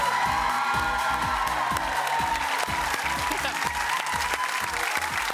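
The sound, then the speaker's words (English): A studio audience applauds and cheers loudly and without pause at the opening of the TV game show Family Feud as host Grant Denyer is introduced, a dense wash of clapping with scattered whoops, while a steady thumping musical beat pulses underneath. “Even I'm clapping.”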